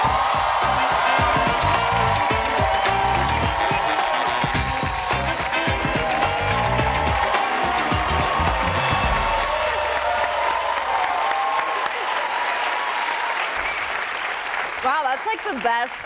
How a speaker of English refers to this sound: Best applause I've ever gotten. That is not true. They're amazing, but that is not true.